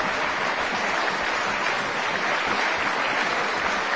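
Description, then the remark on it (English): A festival concert audience applauds Tasman Little and Wayne Marshall steadily, a dense, even wash of many hands clapping at a constant loudness throughout, with no voices or music. “More applause for Tasman Little and Wayne Marshall.”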